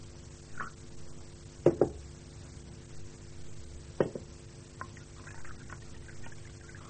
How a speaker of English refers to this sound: Let's pour you a cup.